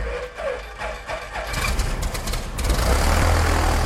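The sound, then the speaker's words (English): A farmer's small plane in northeast Nebraska: the engine sputters and catches after a brief quiet moment, then builds into a loud, steady, rumbling drone with a deep low hum, alone with no talking. “but he's also a pilot and uses his small plane to check on areas he can't access”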